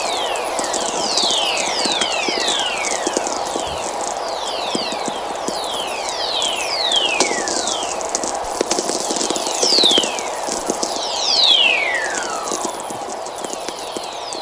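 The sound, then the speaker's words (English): Radio whistlers from the electrical energy of thunderstorms, picked up by NASA low-frequency radio receivers in the Antarctic and Arctic: many high, gliding tones sweeping steadily downward in pitch, overlapping over a constant bed of crackling static, with a few louder sweeps near the end. “This is what the electrical energy of the thunderstorm sounds like when picked up with low-frequency radio receivers”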